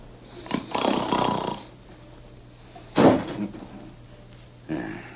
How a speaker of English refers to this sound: Sounded like the wind caught a hold of a door and slammed it shut.